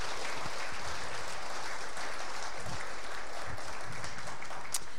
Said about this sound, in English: All right, y'all can sit down. Y'all clap for them.